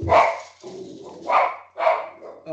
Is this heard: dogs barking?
yes